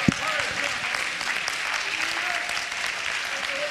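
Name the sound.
audience clapping hands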